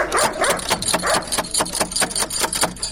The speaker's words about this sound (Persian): اوهو، این چی سگ خطرناک داره که نخوریم ما؟